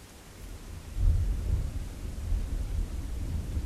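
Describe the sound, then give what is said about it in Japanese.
A low, deep rumble of thunder swells up after a moment and rolls on steadily, heavy in the bass, with a faint hiss like rain in the background and no voices. “おー、雷怖いな。”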